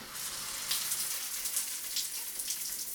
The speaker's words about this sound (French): Nous nous installons face à une pomme de douche, nous ouvrons le robinet.